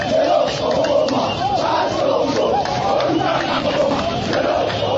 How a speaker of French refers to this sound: Tout a commencé à la place Pascal à la Tchangou, où Jean-Pierre Bemba avec des centaines de manifestants s'avançaient vers le centre-ville. Cette foule scandant des chansons contre l'enterrement de Ransar Malonda grossissait à force qu'elle avançait.